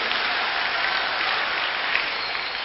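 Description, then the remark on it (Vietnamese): Sustained applause from children at a summer youth gathering at the Suoi Tien cultural tourism park, thanking the staff: a steady dense wash of many hands clapping at once, fairly loud and continuous with no voices over it. “Xin các cháu hãy dành tràng pháo tay để biết cảm ơn.”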